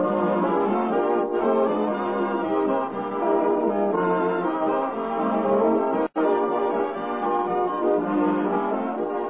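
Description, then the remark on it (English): The three-note NBC radio network chimes ring out slowly, each tone sustained and resonant, one after another with no voices, the whole sequence stretching over several seconds. “Always remember to tune where you hear the familiar three NBC chimes.”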